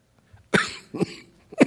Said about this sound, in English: Whoops. Coughing. Sorry about that. That's why I don't have the. I didn't want to cough real loud in your ear.